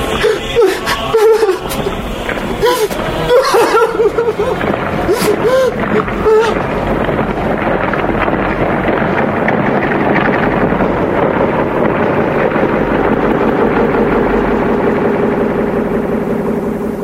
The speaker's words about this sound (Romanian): Vântul e molcom, înăbușitor și se avântă sub lună. Din răsărit, peste valuri, începe o furtună.